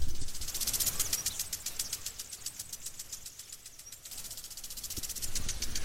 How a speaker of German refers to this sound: Also gibt es hier noch einmal ein Audiobeispiel des Wassersprengers.